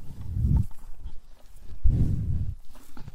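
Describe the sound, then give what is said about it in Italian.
Two deep, heavy breaths from two young bulls, Tao and Ra, of about 600 kg and 700 kg, each a low rumbling whoosh of air lasting about half a second, with quieter snuffling and rustling in between. No one speaks. “Questo è il loro respiro.”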